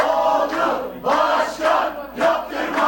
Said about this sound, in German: HDP-Anhänger jubeln im Sprechchor, dass es nach diesem Wahlergebnis keine neue Verfassung geben wird, die auf Präsident Erdogan zugeschnitten ist.